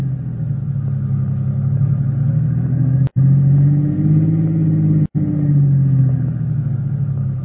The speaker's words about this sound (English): Swing around and park facing back the way we came. Better make it so as we block off his car.